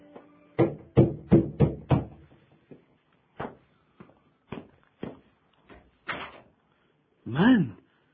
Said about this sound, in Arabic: فلما أصبح سمع طرقات على الباب.